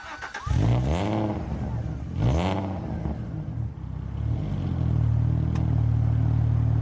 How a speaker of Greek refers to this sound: Εκπληκτικός κινητήρας αυτός. Ατμοσφαιρικός γρήγορος κινητήρας. Με άμεση απόφαση. Old fashion κινητήρας. Χαρακτηριστικός ο ήχος του. Έτσι. Αν ακούς αυτό τον V6 να βρυχάτε, ξέρεις ότι μιλάς για Αλφα Ρωμαίο.